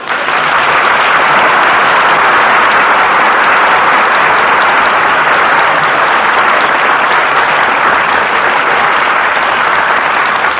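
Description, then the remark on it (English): Loud, sustained applause from a large crowd, a dense steady clatter of many hands clapping for the full stretch with no voices heard above it. “Well, what are you applauding for, Stu?”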